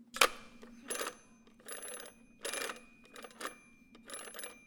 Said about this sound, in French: Pendant ce temps, Madame Léreté passe un coup de téléphone en interne.